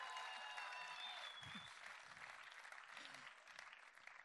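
A crowd claps steadily in dense, continuous applause, with high whoops and cheers rising over it at the start before the clapping carries on alone at a fairly even level.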